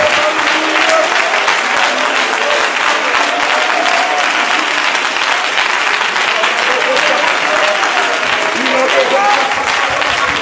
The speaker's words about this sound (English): Oh, clap your hands and thank God for salvation power.